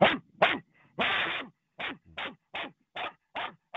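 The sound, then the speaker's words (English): A person imitates a dog barking, letting out a rapid series of about nine short, loud woofs in a steady rhythm, with one longer, drawn-out bark near the start. “What's your name? Give us your Fromber bark.”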